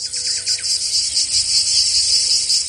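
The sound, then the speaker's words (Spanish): A cicada sings in a continuous, shrill, high-pitched buzz that holds steady and loud throughout. Faint chirps briefly come through at the start, and no one speaks. “Vamos a escuchar lo que es el de la cigarra.”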